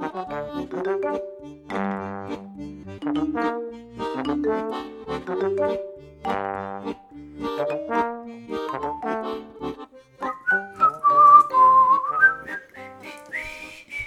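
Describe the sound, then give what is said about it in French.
A tune whistled over light musical backing on Radio Piquet's midinale show, with steady rhythmic phrases and a brighter gliding whistled passage near the end; no one speaks. “Et on va peut-être y arriver à la siffler avant la fin de la saison.”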